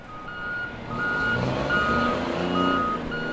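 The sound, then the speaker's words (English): Trucks and cranes at work at the Port of Oakland as a 900-foot container ship docks: steady heavy engine rumble with a repeating high backup beep pulsing over it, fairly loud, no voices. “Trucks and cranes spring into action as a 900-foot container ship docks here at the Port of Oakland.”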